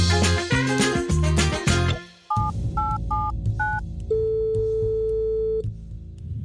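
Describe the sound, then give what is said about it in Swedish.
A phone number is dialed with a short run of electronic keypad beeps, then a single long ringing tone, after a brief burst of music. “du tog hjälp och ringde Dan Hörning från Seriemördarpodden i ett kannibalquiz”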